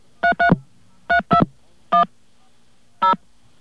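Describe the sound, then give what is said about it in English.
Six touch-tone dialing beeps from a telephone keypad as the phone number of Walden Books is called after a dial tone, steady electronic tones in two quick pairs followed by two single presses, with short pauses between. No one speaks. “We have our dial tone. And we're calling up the number.”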